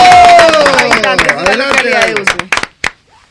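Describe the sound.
A crowd applauds a candidate for local councillor (edil) of the Usme locality in Bogotá, with dense, overlapping claps and some cheering voices, loud at first and thinning into a few scattered claps before fading out.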